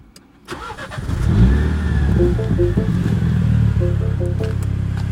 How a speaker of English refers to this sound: F56, 116,000 miles, Cold Start.